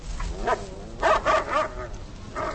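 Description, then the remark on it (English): A dog named Lightning barks in a quick series of sharp, mid-pitched yaps, several short bursts in a loose rhythm, some with a whiny, yelping edge, over a low background rumble. “Lightning is a dog.”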